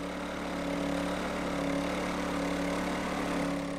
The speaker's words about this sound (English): turns the generator on to provide power